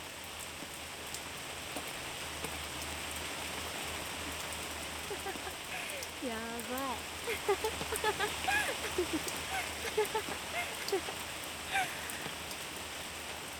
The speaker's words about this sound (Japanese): 雨って嫌なイメージあったけど、汗を流してくれてるみたいで、これは気持ちいい。